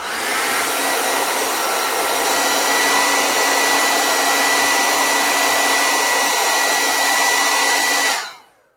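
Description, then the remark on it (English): A hair dryer roars steadily for about eight seconds with a constant whine, drying a layer of blue paint, then cuts off abruptly. No one speaks. “So if I put like a blue here, and let's dry it. See, where would I be without my dryer?”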